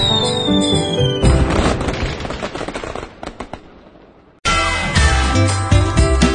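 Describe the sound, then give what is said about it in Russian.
A rapid flurry of fireworks pops and crackles in the middle, thinning out as it fades, with music before and after it. “Празднуйте! Фейерверк-шоу.”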